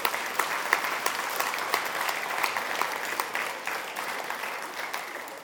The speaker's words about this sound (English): Now, whether we're going to get a spontaneous one or not, but I'm going to tell you to give yourself a round of applause and give thanks to God for what you've done.